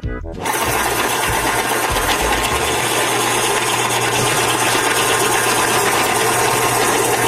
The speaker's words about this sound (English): That's the pencil sharpener! Hey? I love these things, electric pencil sharpener.